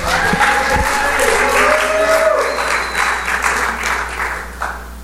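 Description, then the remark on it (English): An audience applauds steadily and loudly for several seconds for a woman volunteering to come up front, a dense wash of many hands clapping at once, with a few voices and faint cheers mixed into the noise. “Everybody clap for her.”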